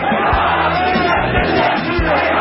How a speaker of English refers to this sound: Shouts of "Death to America" was being called out in Baghdad among thousands of mourners in a funeral procession for Iranian General Qassem Soleimani, who was killed in a U.S. airstrike.